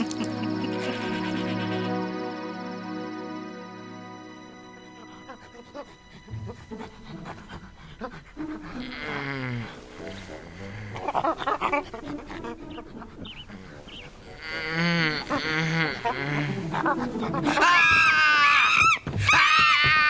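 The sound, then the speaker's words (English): Rapid breathy panting builds into loud, shrill hooting screams from a female chimpanzee named Winona, on a person's bed, growing more frantic and piercing toward the end. “She's not a monkey. She's a chimpanzee.”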